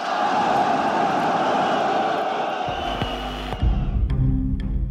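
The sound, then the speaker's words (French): A large crowd of Renault factory workers in France boos one of the measures of the Grenelle agreements in a loud, sustained roar of many voices. Partway through, lower, steadier tones join in over the unbroken din. “Ces huées, qui concernent seulement l'une des mesures, vont être interprétées par tout le monde comme un refus des accords de Grenelle par la base ouvrière.”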